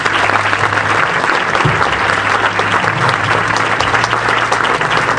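Sustained applause from an audience at the DAIA Human Rights Award event, given in memory of those who gave their lives for others: a dense, steady wash of clapping at a loud, even level for the whole stretch, with a faint low hum running underneath and no voices standing out.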